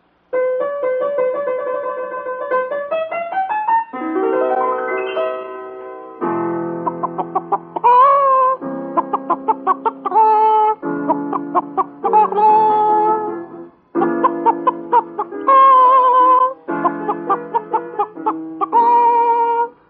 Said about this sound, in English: Now, our first contestant is Miss Henrietta Hen, who will sing an aria entitled Les Filles de Chicken N'est-ce pas?